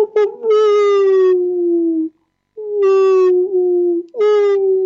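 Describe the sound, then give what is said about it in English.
A person imitates a wolf howl, producing three long, drawn-out vocal howls with a brief pause between them, each sliding gently downward in pitch, loud. “You can also do humming, and or even wailing, or like you could do the wolf sound.”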